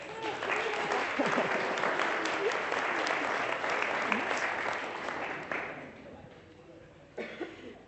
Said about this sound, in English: She did do very well. Should we give her a clap?